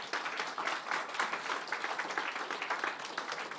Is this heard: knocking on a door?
no